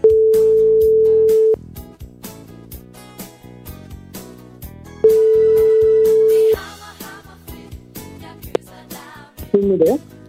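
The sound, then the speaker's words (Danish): A telephone ringback tone sounds twice as a steady electronic hum during an outgoing call to a younger sister, each ring lasting about a second and a half, over busy background music with a brief click near the end. “Vi ringer til lille søster Mette, som har sendt os en mail på am@anr.dk.”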